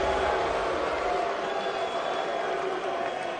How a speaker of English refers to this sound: Here comes the commissioner. Quiet, everybody. Here we go. Here we go. The first round right now. Serious draft business. They're booing him. He's getting booed.